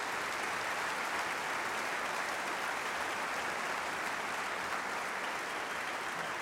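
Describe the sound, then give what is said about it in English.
A steady, dense round of applause from a concert audience honoring a retiring concert prelude speaker, many hands clapping at once into a broad, even wash of sound that holds constant throughout without any voices. “so give her a nice round of applause also.”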